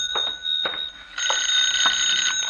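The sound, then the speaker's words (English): A telephone rings with a shrill, continuous bell, loud, its metallic trill pulsing steadily for the whole moment with no voices present. “I sent the waiters back to their jobs and was about to go out front again myself when the phone opened up.”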